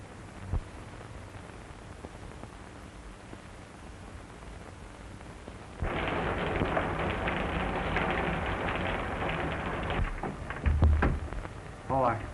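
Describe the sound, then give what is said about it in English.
Steady rain hisses in suddenly midway, a dense wash of falling drops that holds for several seconds, with a low rumble near the end and faint voices beneath. “I came in to escape the rain.”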